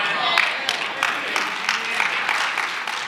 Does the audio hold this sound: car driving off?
no